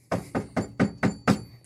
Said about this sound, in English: So I'm like, who the hell's knocking on the door at 5 o'clock at night or whatever?